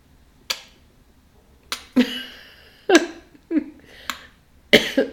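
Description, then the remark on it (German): A voice imitates the puffing cheeks of someone sleeping on their back with mouth slightly open, left cheek then right cheek, with about six short, breathy pops and bursts of air, spaced in a loose rhythm roughly every half second to a second, with no speech. “Also linke Wangenhälfte, rechte Wangenhälfte, aber sehr rhythmisch, also durchaus sehr musikalisch unterlegt.”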